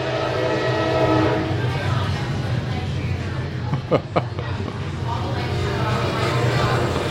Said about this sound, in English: Oh, we have a train. This is good. Let's wait a moment.